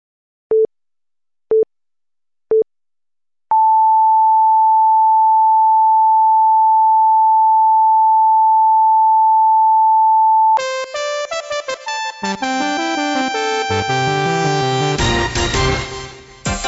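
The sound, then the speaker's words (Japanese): A joke alarm broadcast sine tone on the radio: four short, evenly spaced pips, then a long, steady, mid-pitched beep for about seven seconds, giving way to a loud, dense wash of buzzy electronic sound. “この爆笑警報放送はパルベライズビートをお聞きいただく以外、特に何の役に立つこともありません。”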